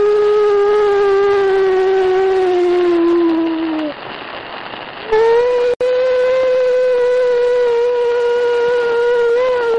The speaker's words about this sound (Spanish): Y parece que se cuela el aullido de un lobo que evidentemente no estaba dentro de la tienda durante la grabación de Vladimir Bogras.